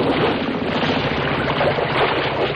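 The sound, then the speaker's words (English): An idling boat motor sputters roughly before dying, a loud, dense rumble mixed with wind and water noise that holds steady throughout, with no voices. “Uh-oh. The motor's died. And the boat's drifting.”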